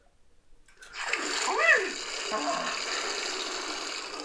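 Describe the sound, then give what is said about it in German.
After a brief silence, a cold morning shower turns on and water sprays steadily as a loud hiss, with a short squeaky whine near the start as the flow begins. “Klar, eine kalte Dusche am Morgen stärkt die Abwehrkräfte.”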